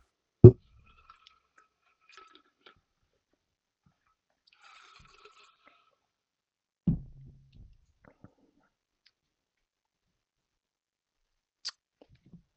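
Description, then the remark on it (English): People quietly sipping bourbon made by Buffalo Trace: a few short, wet mouth and swallowing sounds spaced apart, soft, with near silence between them and no talking. “But first, let's take a sip and see what you guys think.”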